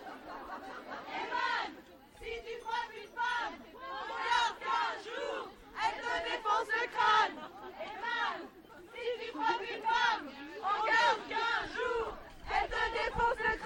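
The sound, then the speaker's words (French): A crowd of women shouts slogans in unison in the street, loud rhythmic chants rising and falling in repeated bursts with brief dips between phrases, their high voices blending into a dense, continuous roar. “J'adore crier avec plein de meufs des slogans super dans la rue.”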